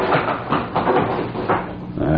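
The door of hotel room number 6 being opened, with a drawn-out, groaning creak that swells in several uneven pulses. It is fairly loud, with no one speaking over it.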